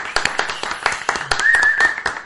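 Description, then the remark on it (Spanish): A group of people applauding to welcome a guest, with rapid, irregular claps overlapping throughout. Partway through, a sustained high-pitched cheer or whistle rises above the clapping. “¡Un aplauso! ¡Bravo!”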